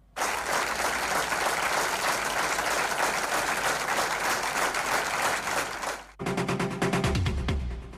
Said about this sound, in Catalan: Al finalitzar la lectura i enmig de llàgrimes, un simbòlic i llarg aplaudiment.